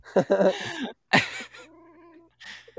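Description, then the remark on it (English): A female cat in heat yowls several times, loud drawn-out meows with a long wavering cry in the middle and short pauses between calls. “That kitty is ready. Oh, she's like, yeah, man.”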